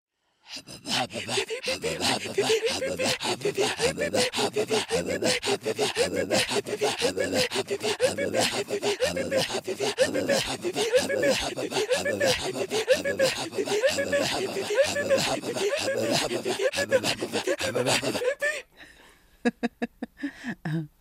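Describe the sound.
Inuit-style throat singing of the song 'Polar Bear and Wolf': a fast, steady stream of rasping, breathy voiced pulses, rhythmic and loud, running about eighteen seconds before stopping abruptly into a few scattered faint sounds.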